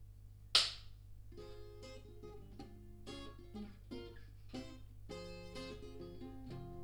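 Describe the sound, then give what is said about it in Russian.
A single sharp, loud crack of a film clapperboard snapping shut at the start of a retake, followed by sustained, harmonically rich tones that continue steadily underneath. “Сначала хлопушечка. Окей, хлопушка.”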